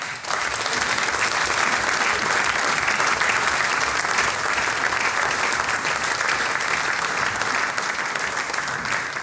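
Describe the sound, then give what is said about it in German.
A large audience at a village event in Unterlamm claps steadily for several seconds, a dense, sustained wash of applause at fairly even loudness from start to finish, with no voices standing out. “Das ist euch ein Applaus, danke dir.”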